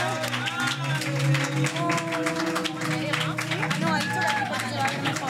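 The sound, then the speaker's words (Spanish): A crowd applauds actor Santi Vaca, known for La Sociedad de la Nieve, with steady, dense clapping that fills the whole moment, mixed with cheering voices and a sustained musical tone underneath, loud. “¡Un aplauso, por favor!”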